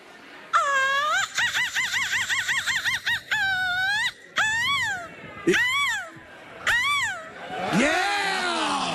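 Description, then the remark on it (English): A woman's voice imitates a seagull screech, producing a rapid warbling series of high cries followed by several rising-and-falling screeches, loud, ending in a harsher, breathy squawk. “give us your best seagull screech.”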